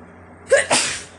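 A single fairly loud sneeze: a short voiced intake followed by a sharp, breathy burst that trails off, with no talking around it.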